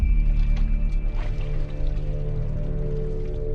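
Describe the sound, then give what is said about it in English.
Water sloshes and squishes as a pair of bloody hands rinse off in a white plastic pail of water, with soft drips and splashes over a steady low hum, continuous; from the film Sabotage. “Titles and block letters frame a pair of bloody hands as they rinse off in a white plastic pail of water.”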